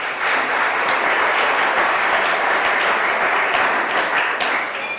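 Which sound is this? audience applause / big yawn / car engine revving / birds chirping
audience applause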